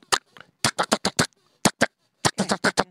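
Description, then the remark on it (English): A person vocally imitates M16 rifle fire, spitting out short, sharp staccato bursts in quick clusters with brief pauses between them, fairly loud. “Can you do an M16? Well, M16 is a little bit more staccato, so it's...”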